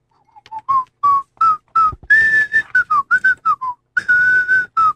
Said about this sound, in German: Und da pfeifen Sie revolutionäre Lieder, die Marseillaise?